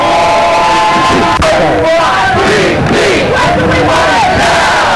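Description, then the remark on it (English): A large protest crowd of hundreds, with people in passing cars, cheers and shouts continuously and loudly in chilly weather as the sky darkens, with overlapping yelling voices and a sharp bang near the start amid the dense roar. “There's still hundreds of people with us and passing by in the cars. Hundreds of people cheering us on from the safety of their vehicles.”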